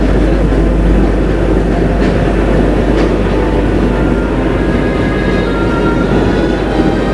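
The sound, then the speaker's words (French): A deafening, steady roar of an empty metro train rumbling through a dark tunnel, with heavy low-frequency drone and faint metallic rattles and clicks running throughout, continuous. “Bruit assourdissant, il roule dans le noir.”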